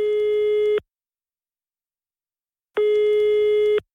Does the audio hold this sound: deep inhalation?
no